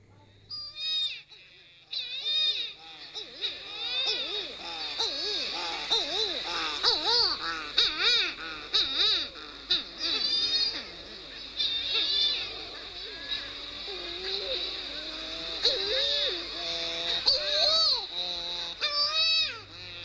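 A dense chorus of titi, or mutton bird, calls: wavering, moaning croons and wailing cries overlapping continuously for twenty seconds, fairly loud, with many birds calling at once.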